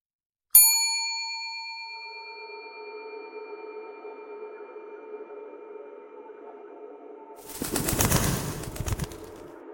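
A single bright ding from a hotel front desk bell rung by the manager, its clear metallic tone ringing out and slowly fading, followed near the end by a brief burst of rustling, fluttering noise.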